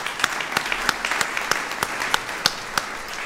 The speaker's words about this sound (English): So, yeah, we can clap for that.